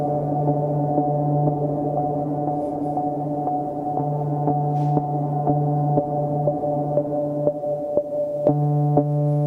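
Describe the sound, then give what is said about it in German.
A steady, buzzy electronic drone holds a low pitch with rich overtones, sounding dry without reverb, while faint clicks tick through it at irregular intervals. “War das eigentlich ohne Hall-Effekt nur das? Kann man das hier hinten aufdrehen? Die Frequenz?”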